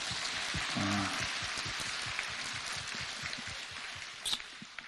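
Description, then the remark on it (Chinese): A crowd applauds to thank the station head who came a long way to see them, in a dense, steady patter of clapping that holds at an even level for about five seconds, with a brief low tone near the start. “你看我就没办法，只能给大家看，这么远的路跑着来看你们，你们还不都鼓鼓掌谢谢台长。”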